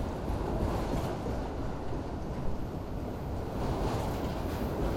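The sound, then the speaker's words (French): Steady rumble of a freight train hauling ore wagons, rolling calmly along the tracks through a dry, flat, rocky landscape in fine, hot weather of at least 40 degrees with little wind, a dense continuous low roar with a faint airy hiss that holds evenly throughout, with no voices. “Le train roule tranquillement. Il transporte des wagons de minerais.”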